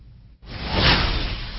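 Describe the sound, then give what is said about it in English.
A single broad, noisy swoosh rises quickly after a brief silence, swells to a loud peak, then sustains and tapers slightly, like a produced transition effect. No voices. “I think we need a swoosh.”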